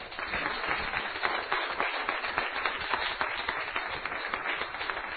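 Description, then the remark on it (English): A crowd at a revival tent meeting claps steadily and densely to cheer a song leader, a sustained wash of applause mixed with some cheering voices, holding at an even, fairly loud level throughout. “Well, give him a cheer.”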